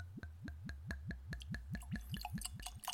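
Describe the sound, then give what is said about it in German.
Liquid glugs out of a full bottle of M&H Pomegranate Wine Cask finish in a quick, steady series of about a dozen gurgles, each a low rising gulp with a hollow ring, with no talking. “Man hört, ich habe nicht gelogen, dass die Flasche voll ist.”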